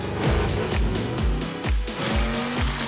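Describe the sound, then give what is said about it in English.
A racing car engine roars loudly and climbs through gear after gear in quick repeated surges, with tire squeal and road noise mixed in, from the video game Forza Horizon 3 with the Logitech G Car Pack add-on. Nobody speaks. “for a playful romp through the streets in the 2014 Morgan 3-wheeler or cruising the beach communities in the 1965 Pontiac GTO or traversing the wilds in the 2017 Jaguar F-Pace, the Logitech G Car Pack is a delight for Forza Horizon 3 fans everywhere.”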